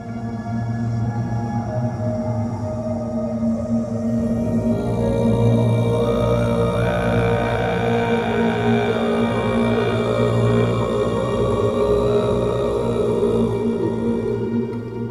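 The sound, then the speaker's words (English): Dark, ethereal music built on a deep, steady throat-singing drone with buzzing overtones; around five seconds in, brighter shimmering layers swell in above it and the sound stays full and continuous, with no talking. “There's this foreboding kind of ethereal music and then this, like, low, I think, throat singing comes in.”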